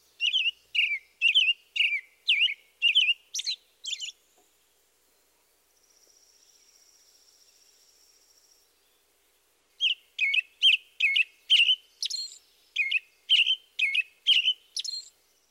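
An American robin sings bright, caroling whistled phrases in a steady series, pauses while a faint high buzzing trill runs underneath, then resumes with another run of rising and falling notes.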